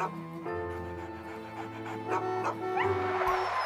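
A dog whimpers and gives a few high, thin yips over a few seconds, the cries rising in pitch near the end, moderately loud.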